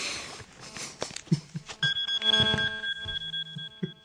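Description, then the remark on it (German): A phone ringtone plays during a recording as a run of bright electronic tones in a short melodic pattern, clear, preceded by a few knocks and rustling handling noises, with no one talking. “Natürlich klingelt mein Telefon und versaut die Aufnahme total.”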